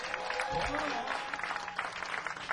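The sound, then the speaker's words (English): An audience at a show claps steadily for a couple of seconds as those who attended the first show respond, a dense, crackling patter of many hands, with a few voices calling out early on. “So, judging by applause, how many people were here for the first show?”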